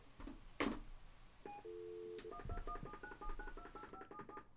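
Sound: telephone dialing tones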